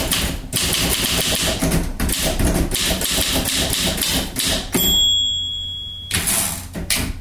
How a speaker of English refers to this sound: And wherever the poet goes here in Chattanooga, so goes her typewriter.